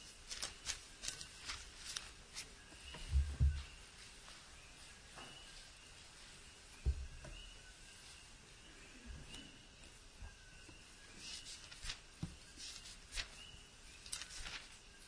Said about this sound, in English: A lot of birds out tonight. I haven't heard them be this loud before.